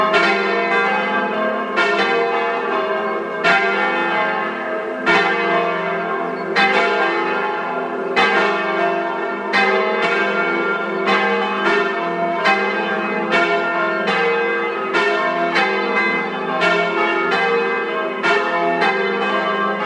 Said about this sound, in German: Es ist 12 Uhr. Sie hören die Glocken der Wallfahrtskirche Unsere liebe Frau am Sand aus Milland in Südtirol.